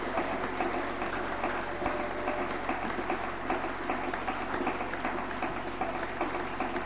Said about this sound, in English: Let's give a clap of it to the Lord Jesus.